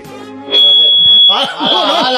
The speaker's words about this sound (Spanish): ¿Qué es eso? Ah, no, esto es el la alarma, el sonotone, que lo voy a poner aquí de